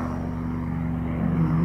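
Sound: helicopter flying overhead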